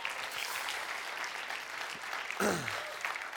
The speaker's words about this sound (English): Can we just clap one more time? Because this is awesome.